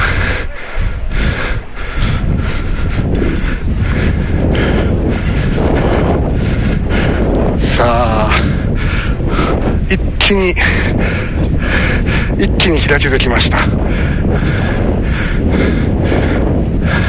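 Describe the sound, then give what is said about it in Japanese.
Loud, steady wind buffets the microphone in a continuous low roar, with brief gusty flutters, while a man speaks over it on the path along the Yodo River embankment, beside a boat landing. “今度ね、淀川の堤防沿いの道に上がってきまして、今風強いな。”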